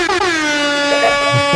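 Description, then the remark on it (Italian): A party horn blows one long, loud, buzzy note that holds steady for over a second, its pitch sagging slightly toward the end. No one speaks. “Secondo me queste trombette dovrebbero portarle anche in chiesa la domenica mattina, sì, per svegliare un po' così, sì, la gente che va a messa.”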